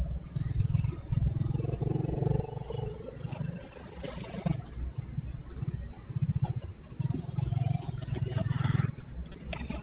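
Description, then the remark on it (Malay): A motorcycle engine runs steadily as it is ridden, a low, throbbing hum that rises and falls as it accelerates, accompanied by wind rush and occasional rattling, fairly loud throughout. “Tapi ya, saya pakai motor dulu.”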